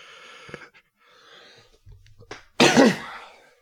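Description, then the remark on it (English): A sudden, loud cough bursts out after some quiet breathy sounds, a single harsh explosive burst that trails off within about a second. “I need to figure out a cough button.”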